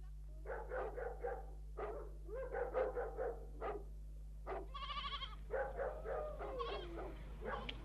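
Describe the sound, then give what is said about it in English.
Sheep bleat over and over in quavering, overlapping calls, loud, with a steady low hum underneath and no talking. “He told me to bring the sheep over the side, and here they are.”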